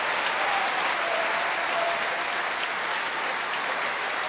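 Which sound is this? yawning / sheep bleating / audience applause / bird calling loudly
audience applause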